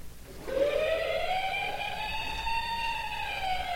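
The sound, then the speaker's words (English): A toy fire truck, kicked and pushed to set it off, starts its siren after a brief pause and sounds one long electronic wail, its buzzy, harmonic-rich tone gliding slowly upward in pitch, then dipping slightly, at a steady volume. “I'm gonna kick this fire truck. I'm gonna push it. Watch what it does.”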